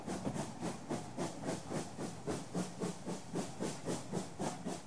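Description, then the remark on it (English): A steam train hisses and puffs in a steady, rapid rhythm, with bursts of steam repeating about three times a second at a constant, moderately loud level and no voices. “But when he asked Jane the Royal Train to go again, Jane just went, Pshhh!”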